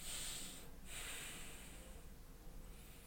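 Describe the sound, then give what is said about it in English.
Slow, deep breaths, a soft airy rush drawn in, a brief pause, then a long, gradual exhale, all quiet with no talking. “And now allowing these feelings to be here, I invite you to take a few deep breaths.”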